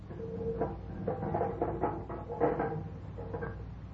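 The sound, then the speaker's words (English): A door closes as a guard leaves, with a series of creaky wooden bumps and rattles over a low, steady background hum, with no voices. “Was that the door?”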